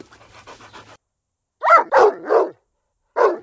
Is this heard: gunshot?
no